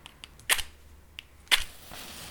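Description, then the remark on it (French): A match is struck to light a fire in a fireplace hearth: a few light scratches, then two sharp rasping strikes, the second followed by a soft, steady hiss as it flares. No voices. “Et en cette dernière quinzaine de l'année, comme vous l'aurez compris, on va essayer de préparer le foyer dans l'âtre, on va craquer une allumette, et on va essayer de vous faire écouter sous toutes ses formes”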